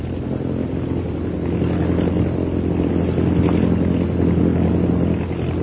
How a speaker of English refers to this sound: He's throwing a circle of planes around the camp. The scout planes are coming straight here, all right.